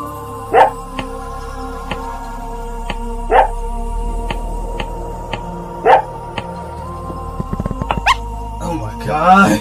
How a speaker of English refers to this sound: Our story begins in the cargo bay of the Titan One. The captain's dog Rover is running around the bay and chasing a ball when something unexpected happens.